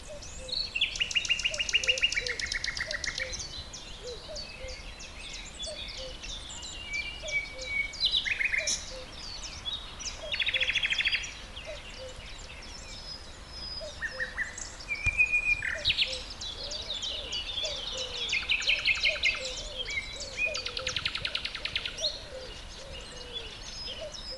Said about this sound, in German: Oh, da hast du ja gleich mit einem ganz schönen Vogel angefangen oder mit einem ganz tollen Gesang. Das war die Nachtigall, die man da so ganz laut gehört hat. Ist gar nicht mehr so häufig bei uns, der Vogel.